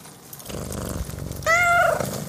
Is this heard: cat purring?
yes